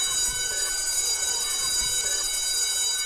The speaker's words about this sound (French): La cloche a sonné, la cloche a sonné.